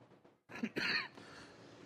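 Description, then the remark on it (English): A pair of quick, harsh coughs from a speaker in the morning, the second louder and longer, with a quiet room tone before and after and no talking. “And I'm going to keep coughing all morning, apparently.”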